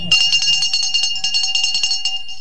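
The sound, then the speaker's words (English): The town crier from Darlington rings his handbell at an event in Bishop Auckland, its clapper striking rapidly and continuously in a fast, steady clatter over a bright, ringing metallic tone that sustains throughout, loud and with no voices. “So, can we hear those bells again?”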